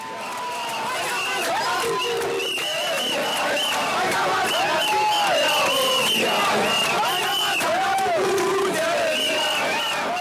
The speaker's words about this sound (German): In Mathare protestierten Anfang Mai rund 200 Menschen gegen die Brutalität der Polizei. Auslöser war der Tod eines Obdachlosen.